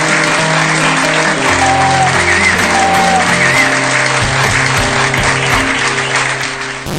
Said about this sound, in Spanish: Un aplauso para ti.